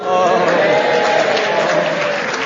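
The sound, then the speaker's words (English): A burst of audience applause, led by the front row, greeting the announced subject "God's Own County": a dense, steady patter of many hands clapping at once, fairly loud and sustained throughout with no voices standing out. “Everybody in the front row claps before they say anything.”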